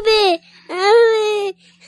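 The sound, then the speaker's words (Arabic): A child cries out in two loud, drawn-out wails at a park playground with swings, the first short and falling, the second longer and sustained, with a brief gap between them. “يعاكرها صوت بكاء وشجارات الأطفال على الأرجوحات وبقية الألعاب.”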